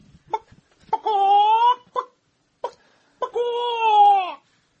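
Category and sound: vocal imitation, voice imitating a chicken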